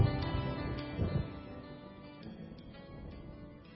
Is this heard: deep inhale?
no